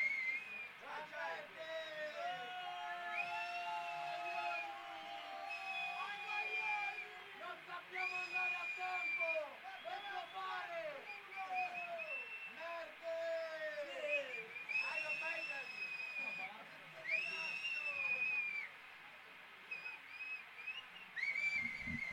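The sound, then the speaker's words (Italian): Isolated whistling calls after a band's performance, bright whistled tones rising and falling repeatedly, some sustained and some short and swooping, over a steady murmur of voices. “Questo fischio isolato vuol dire loro sono magistrali, cioè, comunque eccezionali”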